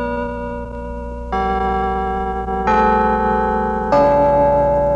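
The Liberty Bank carillon bells chime 4 o'clock in a slow sequence of notes, each new strike landing over the lingering ring of the last, building into a full, resonant, fairly loud peal with no voices.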